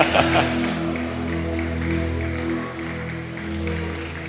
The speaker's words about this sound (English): You know, no, don't clap for that. I mean, it will come. Don't clap for that. Clap only if you're worshiping the Lord.